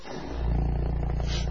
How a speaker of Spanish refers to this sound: Uy, qué feo. Eso es un ronquido.